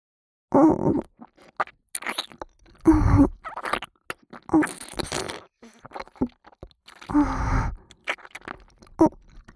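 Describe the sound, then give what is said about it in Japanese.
Wet mouth sounds of chewing come in several bursts with short pauses, punctuated by soft grunts and a gulping swallow near the end, with no clear speech. “もぐもぐごっくんするとこ、見ててくださいね。”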